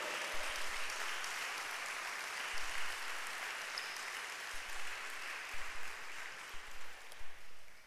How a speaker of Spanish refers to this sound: Así nos cuida Dios, el Rey de Reyes y Señor de Señores. Dale un aplauso al Señor. Un aplauso al Rey.